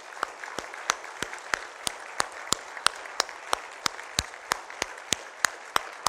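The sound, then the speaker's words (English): An audience applauds veterans in a steady, moderate wash of clapping, with sharp individual claps popping out above it at a fairly even pace throughout; no one speaks. “And I want you to give one more round of applause to our vets.”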